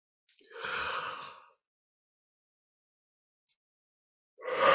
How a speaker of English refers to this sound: And as always, my yawns are about releasing heavy energy. They're not about being tired, which I'm not.